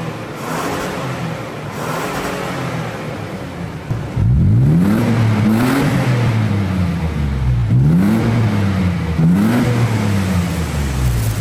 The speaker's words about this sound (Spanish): Más de la marcada diferencia en el sonido, el tiempo de respuesta en la aceleración del motor es mucho más rápido con el sistema de escape de alto flujo.